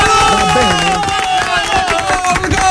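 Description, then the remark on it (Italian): Audience applause: a dense, steady wash of clapping from a crowd, loud throughout, with voices and some sustained tones mixed into the noise. “Un applauso!”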